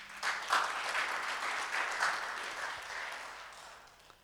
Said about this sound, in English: give him a hand clap.